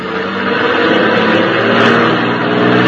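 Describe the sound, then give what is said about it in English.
A car engine revs loudly and continuously, its throaty drone swelling slightly as the vehicle pulls away to squeeze past on the road shoulder. No voices are heard. “Well, we'll have to try and get past it. It looks like you might squeeze by on the shoulder.”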